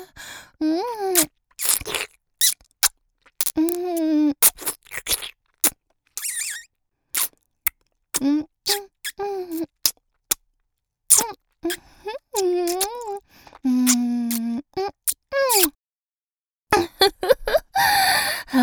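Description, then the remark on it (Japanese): Wet kissing and lip-sucking smacks pop in quick, irregular bursts, mixed with short breathy hums and gliding moans between them, fairly loud, with a few brief pauses. “この魔性のプルプル唇で坊やの唇を思いっきり吸ってあげる。”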